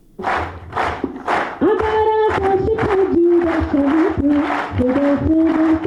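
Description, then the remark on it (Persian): Steady rhythmic clapping in unison, a loud clap roughly every half second, soon joined by a group of voices chanting or shouting in sustained tones over the beat, cheering 11 disabled Afghan National Army soldier-athletes about to go to Canada for the Invictus Games, at an event at the army's training centre. “این صداها و چک چک از بحر تشویق 11 سرباز معلول اردوی ملی افغانستان است که قرار است به زودی برای شرکت در مسابقات جهانی موسوم به شکست ناپذیر وارد کانادا شوند.”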